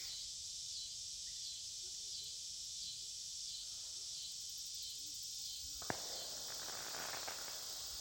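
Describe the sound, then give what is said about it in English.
A dense, continuous chorus of insects chirping loudly and steadily at dusk in a valley, growing louder as the birds stop singing. A soft rustle runs low beneath it, and a single sharp crack sounds near the end. “In an ominous silver darkness, with fireworks echoing through the valley, the birds stopped singing as the bugs got louder.”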